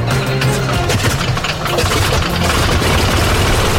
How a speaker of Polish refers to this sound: Co słyszą Państwo w tle, to odgłos pracującego silnika niezwykłego samolotu, bo też jesteśmy w niezwykłym miejscu. To niezwykłe muzeum Hangar 10, w którym eksponowane są samoloty zabytkowe z czasów II i I wojny światowej.